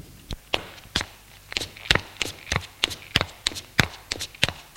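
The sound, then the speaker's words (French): Rapid footsteps clatter down a staircase, a brisk series of sharp impacts overlapping as more than one person descends, with faint background noise between steps. “Ils descendent les escaliers.”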